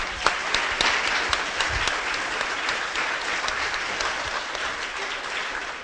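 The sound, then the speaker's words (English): A crowd applauds steadily, dense overlapping claps forming a loud, continuous wash for several seconds with no one speaking. “Just a round of applause for all of you.”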